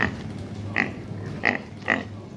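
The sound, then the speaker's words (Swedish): A pig grunts contentedly, giving about four short, snuffling grunts in a loose rhythm, fairly clear, with no voices alongside, played from a sound button on a shop shelf. “Här hör vi en glad gris som då nuffar.”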